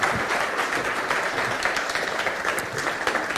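A crowd claps in steady, dense applause, a bright crackling wash of many hands that holds at an even loudness for several seconds with no voices over it.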